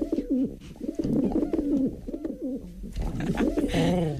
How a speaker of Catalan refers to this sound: perquè ara els coloms són els protagonistes. Compte.